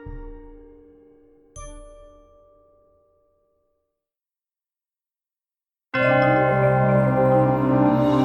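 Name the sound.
bell striking the hour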